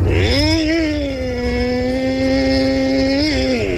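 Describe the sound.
A person loudly imitates a chainsaw with their voice, holding a steady buzzing drone for several seconds, with a brief revving swell near the start and another near the end.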